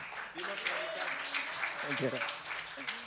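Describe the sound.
Steady audience applause, a dense wash of many hands clapping throughout, with a voice speaking over it and briefly rising in pitch partway through.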